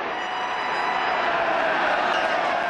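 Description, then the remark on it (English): A large stadium crowd of football fans roars and cheers their team in a steady, continuous wash of noise, loud and unbroken throughout, with no single voice standing out. “But while fans are cheering their team, a group called Shareholders United is trying to organize the fans.”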